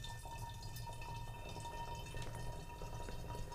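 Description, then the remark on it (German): About one liter of hot water pours steadily into a container, a continuous quiet splashing trickle with a few faint drips, fairly soft, with no talking. “Ich reiche dir 1 Liter. Oh, pass auf. Das ist heiß.”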